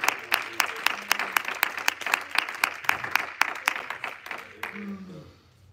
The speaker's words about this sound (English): Come on, that's a good place for everybody to clap, not just two or three.